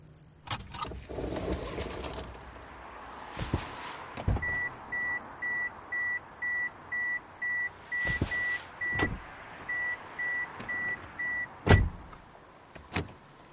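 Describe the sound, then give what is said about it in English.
A car backs into a parking space a few blocks from a mosque in fine weather as a steady series of electronic reversing beeps repeats in a quick, even rhythm, with a few sharp clicks and clunks and no talking. “And here I park my car and take a walk to the mosque.”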